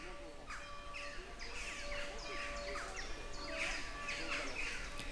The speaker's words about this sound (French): Nous voici dans la Venelle. On ne voit pas un humain. On entend beaucoup d'oiseaux, surtout des choucas.